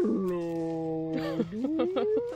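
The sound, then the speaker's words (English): A voice mimics a beluga whale call: a sustained, nasal droning tone that holds steady, then glides upward in pitch with a few warbling pulses, all within a couple of seconds. “No, a beluga whale is a whale that that helps find the fish and goes...”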